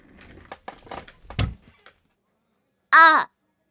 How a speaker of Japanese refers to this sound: 思わず椅子も倒すよね